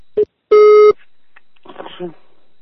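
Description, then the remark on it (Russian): A telephone busy tone right after a hang-up: a short electronic beep, then a longer steady one, loud, followed by faint muffled voices. “Алло, отключаю телефон, не звони.”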